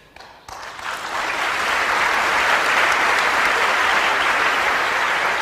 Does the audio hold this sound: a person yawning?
no